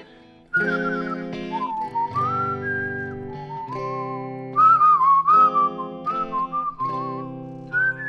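A slow, sliding whistled melody floats over strummed guitar chords, the whistle gliding between long held notes at a relaxed pace, clear and close with no talking.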